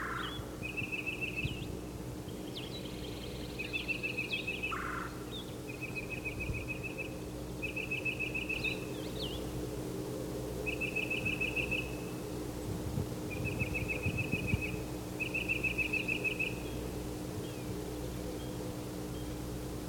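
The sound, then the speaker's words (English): A titmouse, the bird called Yellow Yellow, calls in a series of short, buzzy, mid-high bursts repeated about seven times at a steady pace while pumping its tail, set over a constant low hum and background noise. “He's pumping his tail while he calls.”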